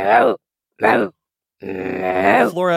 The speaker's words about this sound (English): You don't have to push too hard, but you're going to hold on to this sound of Cargria, this sound of throat singing. You're going to go, low, low. It's the game show buzzer noise. Ooh, ooh, ooh. With a little bit of a bark at the end. Low, low.